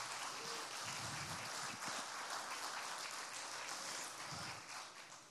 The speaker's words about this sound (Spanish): Dale un aplauso de gratitud al Señor.